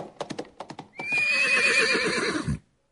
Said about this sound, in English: The passengers had also heard the horse, and they stood in silence near the coach. The sound of the horse was very clear